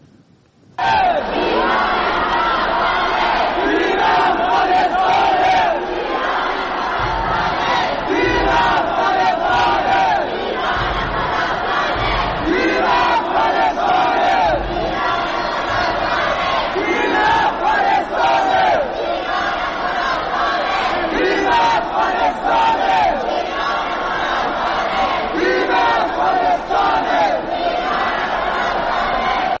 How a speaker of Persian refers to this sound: اوایل این هفته تیم فوتسال زیر 20 سال افغانستان در تبریز به فینال بازی‌های آسیایی راه پیدا کرد و زنان و مردان افغان تونستن به سختی برای تشویق تیمشون به ورزشگاه راه پیدا کنن. اینجا فیلمی رو می‌بینید از یک لیدر زن که در حال هدایت هواداران افغانه.